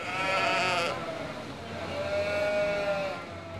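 sheep bleating

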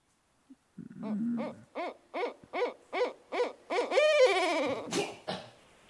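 barred owl call

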